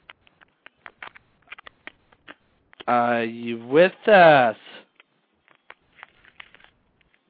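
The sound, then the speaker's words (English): Scattered soft clicks and crackles of someone rustling around with a phone, faint and irregular, with a brief stretch of one person talking in the middle. “We can hear you rustling around the phone.”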